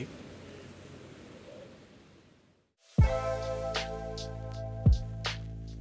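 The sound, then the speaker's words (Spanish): Sea waves wash onto a shore in a steady, hissing surge for a few seconds, fading to near silence before music with deep bass and sharp percussive hits begins. “¿Qué te parece ahora si nos damos un paseo a escuchar ese sonido del mar mientras nos despedimos?”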